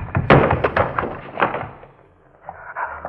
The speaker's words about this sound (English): Oh, the shutter. Someone pushed the shutter, I almost... Sure. Sure, that's what it was we heard.